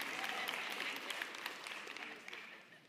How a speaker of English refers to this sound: My wife and I have been married for getting close to 47 years. And every time we get close, you can clap. Clap for her because she's amazing.